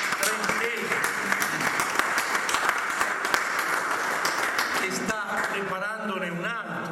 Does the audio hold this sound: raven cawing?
no